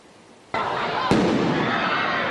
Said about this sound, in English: Fireworks and fights in downtown Miami. The chaos on the first night of the new year prompting a citywide emergency call.